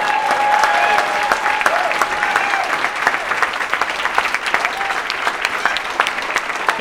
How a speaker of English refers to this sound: Let's have a big, big round of applause